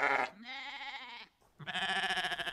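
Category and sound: animal, sheep bleating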